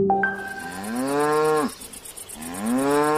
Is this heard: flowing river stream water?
no